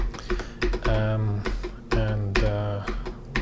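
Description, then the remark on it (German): Sharp computer clicks and keyboard taps repeat irregularly as a neurologist clicks through the slides of one of his recent talks, while a voice talks quietly alongside them. “Natchev klickt durch einen seiner jüngsten Vorträge.”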